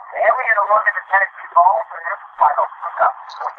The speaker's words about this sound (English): He's playing the TV.